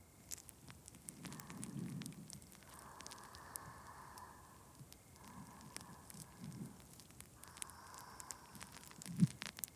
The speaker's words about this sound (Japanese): シュワシュワでちょっと驚いちゃいましたね。大丈夫。パチパチシュワシュワに身を任せて。リラックス、リラックス。